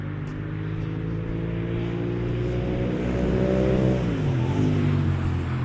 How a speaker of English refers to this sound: So if you've got the effect of that powerful motorbike there in the right hand channel, assuming of course I've got the earphones in the right order. I think I have, otherwise it'd be on the left hand side.